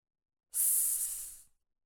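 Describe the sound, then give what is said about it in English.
A single sustained hissing "sss", the sound of the letter S, made by a voice, bright and breathy, lasting about a second before cutting off, fairly loud with silence around it. “I start words like snake, sun, and seven.”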